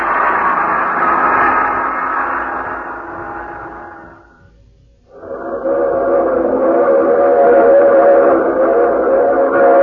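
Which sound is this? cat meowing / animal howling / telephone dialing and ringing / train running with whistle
train running with whistle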